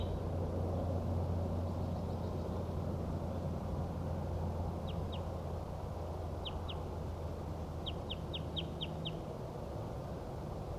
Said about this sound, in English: I think that was a wild bird.